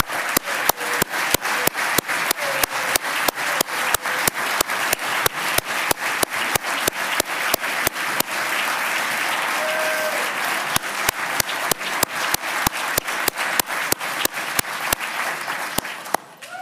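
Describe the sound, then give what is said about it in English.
An audience at a Florida session applauds the members' families for about sixteen seconds, a dense wash of many hands clapping with a few sharp, evenly spaced claps cutting through, steady in loudness before tapering off at the end. “Let's give our families a round of applause.”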